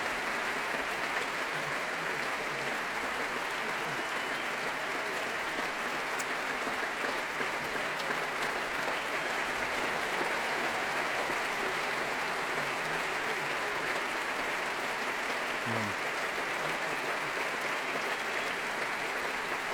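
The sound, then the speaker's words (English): Sustained applause from a large concert audience for a trio of soloists and the orchestra under conductor Myung-Woon Chung, a dense, steady wash of clapping that holds at an even level for the whole stretch without letting up. “Myung-Woon Chung stands back to let them bask in this applause, so well deserved.”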